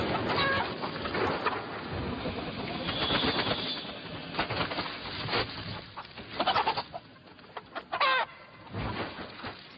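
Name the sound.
rooster crowing and clucking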